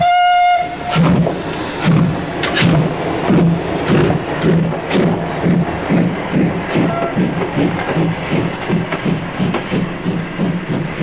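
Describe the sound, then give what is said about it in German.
A short whistle tone sounds, then a train, the Rätselexpress, pulls away from platform (Gleis) 4 with a steady, rhythmic chugging and clattering of wheels that carries on loudly, with no voices. “Der Rätselexpress auf Gleis 4 ist bereit. Vorsicht bei der Abfahrt!”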